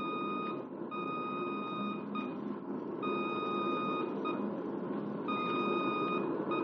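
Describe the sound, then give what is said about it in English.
A steady, buzzy radio range navigation beacon tone, where the A and N signals merge into one on-course hum during an aircraft's low-angle approach to the beam, rings out over a constant roar of static and engine noise, broken by a few brief dropouts before it resumes at the same pitch. “And as you bank toward the beam, trying to hit the thin line where the A and N signals merge into one highway, you hear...”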